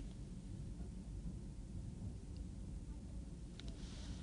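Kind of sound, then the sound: nature, thunderstorm with rain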